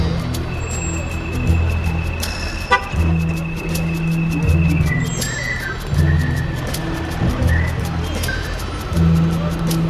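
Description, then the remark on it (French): A waiting bus's horn honks in several bursts over the steady rumble of its large idling engine in street traffic, fairly loud, with a faint voice in the background; a person is standing in the bus's way. “Je gêne le bus, donc je devrais y aller.”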